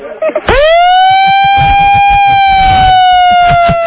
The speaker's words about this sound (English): Want to give her the siren